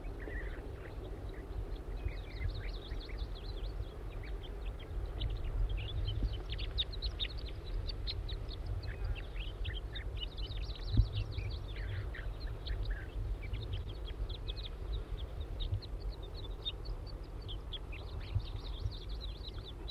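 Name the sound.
juvenile bird calling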